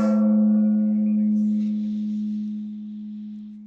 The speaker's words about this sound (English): It's really just an excuse to use the gong. Like, I'll be the first to admit it. It's just, I love having it nearby, and any reason to use it, we use it.